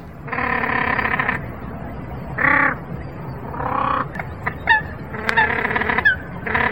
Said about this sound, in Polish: perkos dwuczuby, który myślę, że część z Państwa kojarzy, taki z długą szyją, czubami na głowie. To można by, przyrównując do klimatów festiwalowych, trochę jakby gitary elektryczne nad stawami.